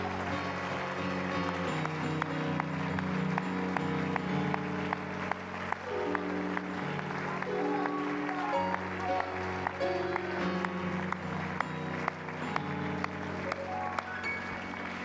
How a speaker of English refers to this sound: Come on, before you're seated, why don't you give God one more hand clap of praise?